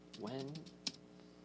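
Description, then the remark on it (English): A handful of crisp clicks on a Bluetooth computer keyboard tap out at an uneven pace as someone looks up when the Nintendo Game Boy came out, with one sharper keystroke near the end, while a brief voice hums over the first half. “I don't know if my keyboard will work because Bluetooth always messes with me.”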